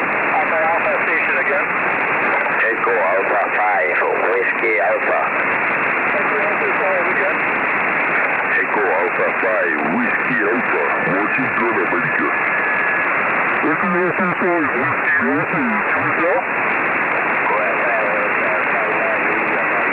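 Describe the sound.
Narrowband radio contact through a satellite over a steady hiss, with voices coming through tinny and distorted and brief pip-like tuning tones chirping now and then as the frequency is corrected for the Doppler effect.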